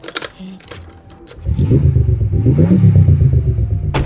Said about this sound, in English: Start the hover car. Oh, yeah. I'll start it.